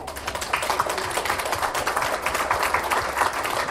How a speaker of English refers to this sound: Can you say thanks with your applause this morning?